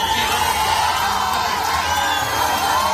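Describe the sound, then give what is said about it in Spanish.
A concert crowd booing: a dense, sustained roar of many voices at a steady, loud level, with scattered shouts rising out of the mass throughout. “Abucheos, o sea, horrible.”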